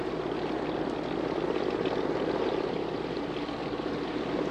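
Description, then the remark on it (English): A steady, loud mechanical drone of a Coast Guard helicopter's engine and rotor wash fills the scene, a dense, continuous roar without pause and no voices. “Coast Guard helicopter. This is WD-9598. Come in, please.”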